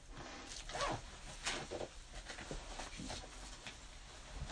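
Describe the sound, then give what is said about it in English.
A bag's zipper is pulled shut in a few quick, raspy strokes, fairly quiet, with faint handling rustle and no talking. “Yep, zipper.”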